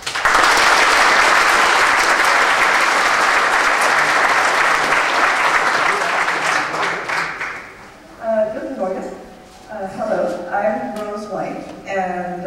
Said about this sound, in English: Please give her a warm applause.